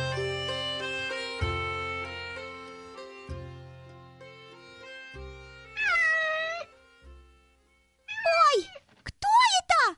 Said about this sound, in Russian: По-моему, Терка, это котенок. А как он тут оказался? Наверное, как-то заполз. Бедненький, смотрите, у него, кажется, лапка поранена. Вот поэтому он так и плачет.